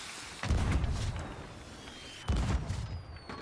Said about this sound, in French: Feux d'artifice, waouh, c'est beau, c'est les fêtes, c'est les fêtes. Absolument. Ah non, ça rend bien. Hein. Donc en tout cas, voilà, vous avez déjà votre feu d'artifice du nouvel an, un peu en avance. C'était un boulet de canon, ça, non?